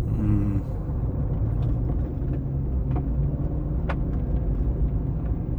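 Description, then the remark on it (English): Steady low engine rumble and road noise of a car driving along non-stop, continuous, with a brief hiss of brakes partway through and no voices. “No, we've been driving non-stop.”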